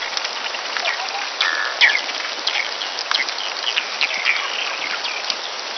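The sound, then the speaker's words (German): Slowed-down recording of herring farts: a steady high hiss dotted with scattered short squeaks, chirps and ticks, a bit like twittering birds, with no voices. “Und genauso okay. machen das die Heringe. Okay, jetzt will ich es hören.”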